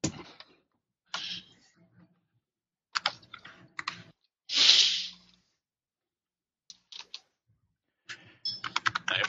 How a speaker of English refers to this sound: Everyone start typing at once. I know, right? We're typing. Very quiet.